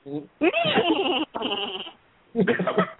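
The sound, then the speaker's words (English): A person imitates a horse's whinny: a loud, wavering, bleating cry in a few quick bursts, the longest in the middle, with short pauses between them. “can I get a horse sound out of you?”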